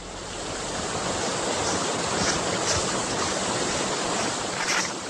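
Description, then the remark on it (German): A steady, dense roar of rushing water from a waterfall pours on without pause, loud and even throughout with no voices. “wartete einige Meter vom Wasserfall entfernt auf sie.”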